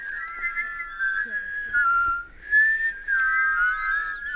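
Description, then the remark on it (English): Several people, students in a birding class, whistle an imitation of a chickadee's song at once, overlapping high, clear tones that slide gently downward in repeated two-note phrases, fairly loud with no talking. “Yes, that's a chickadee.”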